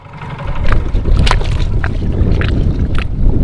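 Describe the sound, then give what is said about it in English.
A boat motors steadily south from Snow's Cut down the lower Cape Fear River in North Carolina, its engine a continuous low rumble with wind buffeting the microphone and brief splashy bursts of spray and chop breaking over the steady drone. “But I got an up-close view hopping a boat with an Audubon North Carolina coastal biologist.”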